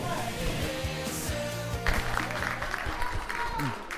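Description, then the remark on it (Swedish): A crowd at a football match between Älvsjö and Solna applauds and cheers after a goal, a steady wash of clapping and roar that swells midway, with voices talking over it throughout. “Där var det mål och då applåderade inte du, men...”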